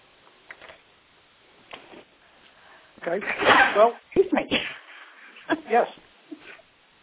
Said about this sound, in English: Okay. Well, excuse me. Yes. No, I sneezed. Excuse me.